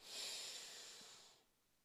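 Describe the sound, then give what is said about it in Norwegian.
A long, airy, deep inhale drawn sharply through the nose during a breathing exercise, steady for over a second before tapering off into quiet. No talking. “Og så puster jeg godt inn i min nesa en gang til.”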